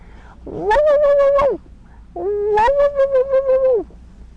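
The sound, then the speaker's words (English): A child's voice mimics a dog with two long, high, drawn-out yelps, separated by a short pause, when asked what a doggy says. The voice is loud, with no other talk. “What does a doggy say, …? What does this doggy say?”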